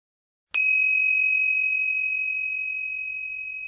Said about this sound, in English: We will begin and end this meditation with the sound of the bell.